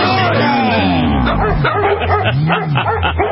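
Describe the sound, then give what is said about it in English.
A dog barks and yips loudly and nearly continuously, its voice rising and falling in pitch with whining tones mixed in, over faint background noise. “Oh, this show has gone to the dogs.”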